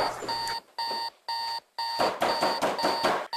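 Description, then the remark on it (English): A loud electronic alarm clock beeps early in the morning in rapid repeated bursts, pausing briefly between groups, with a harsh buzzy ring that fills the whole clip and no voices. “Man, cut that fucking alarm off, dog!”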